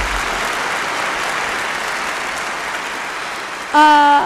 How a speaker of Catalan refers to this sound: però abans de dir les preguntes importants, donem un fort aplaudiment